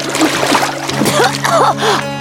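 A loud splash of a barefoot boy slipping on a mossy rock and plunging into a pond while fishing, followed by churning water noise, with startled vocal cries rising over the wash.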